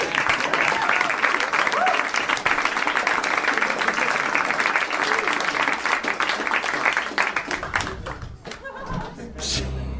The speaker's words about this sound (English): Quickly, before the applause ends.